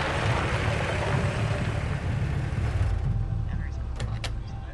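A black 4x4 rumbles loudly as it pulls in off the road onto a forest track, its engine and tyre noise steady before the hiss of rolling tyres fades near the end as it slows to a halt.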